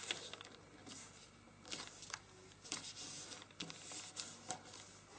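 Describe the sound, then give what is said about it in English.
Crisp paper rustling with several sharp crinkling bursts and soft scraping strokes as a sheet of paper is released, folded and pressed into a crease, with no voices present. “Release the paper and then make a crease.”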